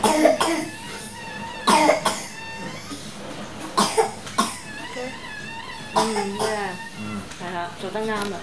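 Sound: coughing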